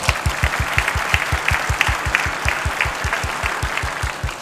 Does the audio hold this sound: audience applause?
yes